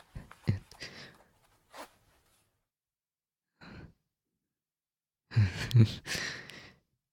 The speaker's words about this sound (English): Yeah, I'll unbutton them, pull a zipper.